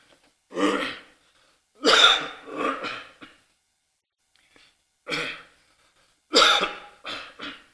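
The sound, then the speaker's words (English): A loud coughing fit: two clusters of harsh, rough coughs, each a quick burst followed by a couple of smaller hacks, separated by a short pause, with no talking. “I've had 2 cough drops this morning to prevent all this stuff from happening.”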